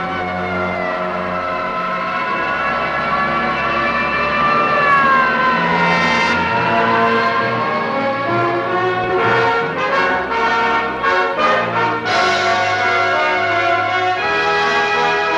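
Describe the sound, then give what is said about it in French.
Wailing city sirens rise and fall over a loud, dramatic orchestral film score at the ending of the film noir "Pour toi j'ai tué", the swooping siren tones weaving through sustained strings and brass with no one speaking. “Ainsi s'achève « Pour toi j'ai tué », là où la musique de Miklos Rossa se mêle aux sirènes de la ville.”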